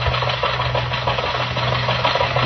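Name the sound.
car engine running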